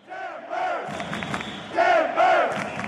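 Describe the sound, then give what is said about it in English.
A large crowd of fans of Portland's professional soccer team cheers and chants, voices rising in two loud, sustained swells of unison shouting over a steady roar of the stadium crowd. “For years, Timber Jim Serrell led cheers like this for Portland's professional soccer team.”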